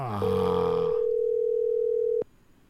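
An outgoing phone call rings unanswered with a single steady electronic tone lasting about two seconds, then cuts off abruptly with a click. A brief burst of mixed noise sits under its start.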